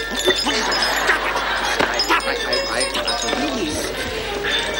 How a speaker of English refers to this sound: Oh, look, cousin, wind chimes.